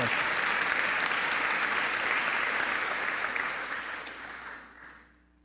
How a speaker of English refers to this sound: So let's give each other a good round of applause as we welcome all of our people here tonight at St. Monica's. Thank you.